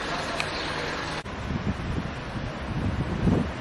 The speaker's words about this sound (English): So, here's the sea, okay, that's me, it's the ocean. It's quite windy, it's quite Atlantic here. It's not very warm, the Mediterranean is three times as hot as here.